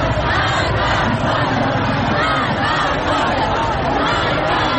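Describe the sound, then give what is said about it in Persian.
A large crowd of Afghan migrants shouts together in the streets of Tehran, crying out for justice in a dense, continuous roar, many voices overlapping in rising and falling waves of raised, chant-like cries with no pause throughout. “خاصه وقتی در خیابان‌های تهران فریاد دادخواهی مهاجران افغان شنیده می شود.”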